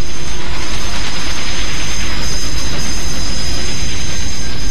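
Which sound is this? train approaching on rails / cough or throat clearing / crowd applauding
train approaching on rails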